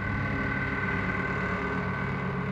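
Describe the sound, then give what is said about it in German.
A steady, loud engine drone with a deep rumble and droning harmonics from heavy construction machinery, bulldozers pushing earth and excavators digging, at a large building site among motorways, bridges and support pillars, running continuously, with no speech. “Mittendrin, zwischen Autobahnen, Brücken und Stützpfeilern, jede Menge Baumaschinen. Bulldozer, die Erde wegschieben, Bagger, die Löcher graben, Lastwagen, die den Aushub wegfahren.”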